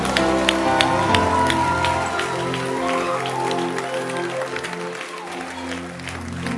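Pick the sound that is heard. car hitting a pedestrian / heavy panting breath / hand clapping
hand clapping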